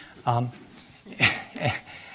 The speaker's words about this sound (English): And then I figured, actually, it's the male turkey making this noise. Sound like a dog.